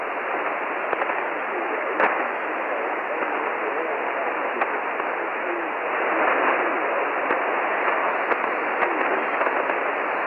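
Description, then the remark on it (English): Steady, dense shortwave radio static hisses throughout at an even level, broken by scattered faint crackles and a brief swell of a weak, indistinct signal partway through; no clear voice emerges. “Negative copy in the noise.”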